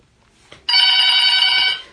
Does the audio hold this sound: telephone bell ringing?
yes